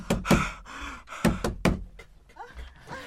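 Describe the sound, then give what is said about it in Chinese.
Loud pounding on a wooden door as Peter knocks at the house of Mary, mother of John Mark, in Jerusalem in a Bible story drama: a quick pair of heavy knocks, a short pause, then two more hard blows, followed by faint muffled voices in the background. “开门呐！”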